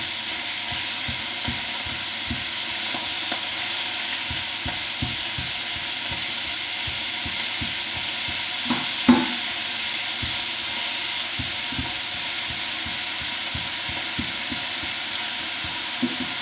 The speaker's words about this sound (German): So, Pfanne ist heiß. So, ich hoffe, das Zischen übertönt mich jetzt hier nicht allzu sehr.